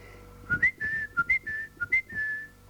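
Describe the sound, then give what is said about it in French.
A blackbird's fluty song, or a whistle imitating one: a run of about eight clear, mid-pitched notes, some brief and some held, rising and falling in an irregular rhythm, with no talking. “« Te voilà revenu !» chanta-t-il en ouvrant un œil.”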